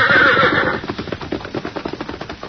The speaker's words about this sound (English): Go on, red horse. Run yourself back to the hills. But don't you get swell-headed, because you're not the best horse in the world. Only the second best. Go on now.